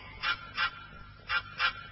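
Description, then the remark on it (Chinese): A duck flaps its wings and quacks loudly four times, in two quick pairs separated by a short pause, the nasal calls standing out clearly against a quiet background with no talking. “狐狸说着就把鸭子放开了，鸭子拍了拍翅膀，大声地叫了起来。”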